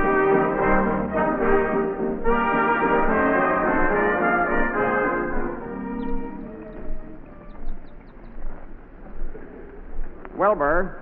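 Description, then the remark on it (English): Low, warbling coos from pigeons or doves flying up to their nest run together for several seconds, then thin out into softer, scattered calls, ending with a brief wavering trill. “I'm just looking out the window, watching them birds fly up to their nest.”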